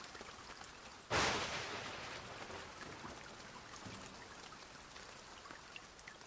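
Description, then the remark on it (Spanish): Steady rain comes in abruptly after a second of quiet, settling into a continuous hiss with scattered droplet pats and ticks that gradually eases slightly in loudness. “Está lloviendo.”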